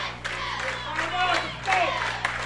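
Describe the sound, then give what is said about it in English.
A large crowd at a football stadium roars and cheers continuously just before a second-half kickoff, with scattered whoops and shouts rising above the dense, steady wash of noise. The bleachers are filled to capacity, with people along the fence and on the sidewalks. “Saluki's got a big crowd here tonight. Bleachers are filled to max capacity.”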